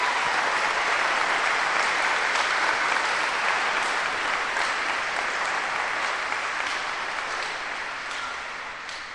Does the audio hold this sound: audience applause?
yes